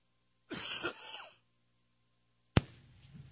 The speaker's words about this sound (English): I will survive. Just keep coughing.